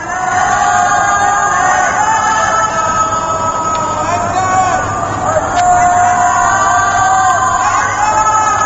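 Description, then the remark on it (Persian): A crowd shouts the slogans "Allahu Akbar" and "Death to the dictator" together from rooftops at night in Tehran, Iran, in a steady, sustained roar of many voices, loud and unbroken throughout, with an echoing quality. “بر پایه گزارش ها، تظاهرات و درگیری بین مردم و نیروهای امنیتی تا پاسی از شب ادامه یافته و پس از آن هم در برخی مناطق تهران و سایر شهرها تا ساعت پایانی شب فریاد الله اکبر و مرگ بر دیکتاتور از پشت بام ها به گوش رسیده است.”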